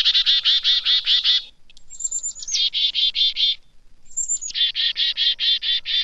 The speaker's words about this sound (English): They're also wary of raptors. When chickadees see a goshawk, owl, or some other winged predator, the birds issue an alarm call.